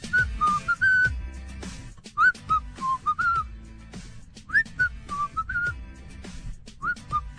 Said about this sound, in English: I don't know if it's the intensity of the whistle. Usually there's a little bit more in there, yeah.